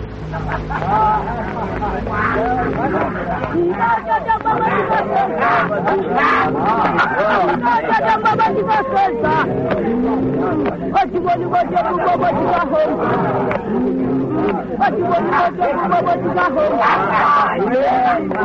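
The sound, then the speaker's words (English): A crowd of people gathering where an elephant has been shot in Africa, murmuring and talking over one another in a steady, dense babble, with overlapping voices rising and falling throughout and no single speaker standing out. “Where did they all come from? Keep back, Mary.”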